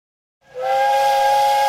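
The steam whistle of a train slowly approaching a station blasts in after a brief silence, a loud sustained tone with several harmonic pitches layered over breathy hiss, holding steady to the end.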